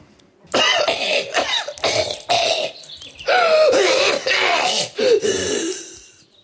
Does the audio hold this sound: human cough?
yes